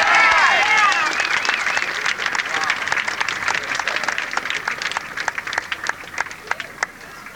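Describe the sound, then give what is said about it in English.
A crowd in Ann Arbor, Michigan, applauds the performers, a dense burst of clapping with some cheering at the start that gradually thins into scattered individual claps over several seconds. “give these boys another Grand Ann Arbor, Michigan, round of applause.”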